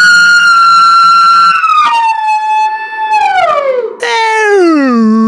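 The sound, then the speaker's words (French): A girl's loud, sustained scream that bends and slides downward, stretching into a long wavering wolf-like howl with a second drawn-out, falling wail at the end; no talking. “Le cri de la fille est vraiment dégueulasse. On dirait que ça se transforme en comme un cri de loup.”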